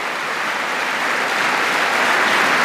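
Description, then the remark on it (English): Steady, continuous applause from a large crowd for Apollo 11 astronaut Buzz Aldrin, a dense crackle of many hands clapping at once that stays loud and even throughout, with no voices standing out. “Sustained applause for Buzz Aldrin, who's there in a Stars and Stripes tie.”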